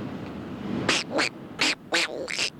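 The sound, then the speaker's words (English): A person imitates Donald Duck talking, producing a quick run of five raspy, squawking syllables in an uneven rhythm, loud against a faint background hiss. “Okay, let me hear you do your Donald Duck.”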